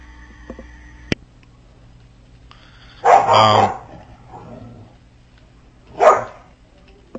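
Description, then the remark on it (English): A dog barks twice while attacking a cat, a loud sustained bark burst followed by a shorter one a few seconds later, with a faint click and quiet background hum between. “Yeah, it's my dog.”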